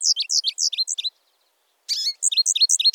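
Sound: american goldfinch song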